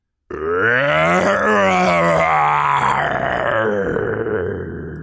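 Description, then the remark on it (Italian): A powerful, deep roar bursts out in the darkness and holds for several seconds, loud and growling with a rough harmonic tone that swells in pitch, then sinks and trails off gradually. “Un potente ruggito nell'oscurità gli fece drizzare i pochi capelli in testa.”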